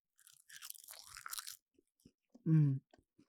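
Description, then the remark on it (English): Crisp crunching of a seaweed snack, a dense burst of crackly bites for over a second, followed by a short, low hum-like vocal sound of enjoyment and a few faint mouth clicks. “I'm eating some seaweed. One of my favorite snacks.”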